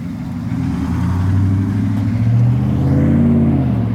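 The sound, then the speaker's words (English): A truck engine rumbles steadily, its low drone rising slightly in pitch as the vehicle rolls past a church in an empty landscape without slowing; no voices are heard. “I got a lot of friendly waves from behind rolled-up truck windows, but almost nobody stopped.”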